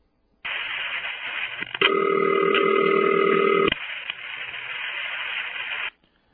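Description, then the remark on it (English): A telephone line hiss starts, then a single steady 'city ring' ringback tone from a telephone exchange buzzes for about two seconds before dropping back to line noise, heard over a narrow, phone-quality channel. “This was definitely not typical for Crossbar 5, but Crossbar 5, like the panel and Crossbar 1, typically had the city ring that we heard at the beginning of this tape, like this.”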